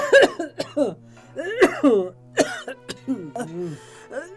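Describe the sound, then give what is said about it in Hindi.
An elderly woman coughs repeatedly in rough, strained bursts, with hoarse voiced groans and throat-clearing between the coughs, fairly loud for about four seconds. “अरे बहू, थोड़ा गर्म पानी दे दे अपनी माँ को, खांसी से मरी जा रही है ये।”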